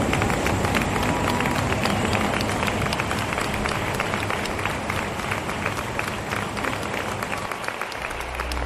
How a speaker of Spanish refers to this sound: Gracias al pueblo de Cartagena. Disfrutad. Un fuerte aplauso.